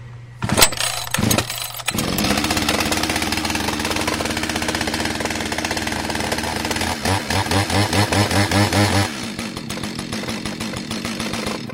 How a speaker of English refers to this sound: Voila! Let me say it again. Never try to start a chainsaw or any engine without an adult.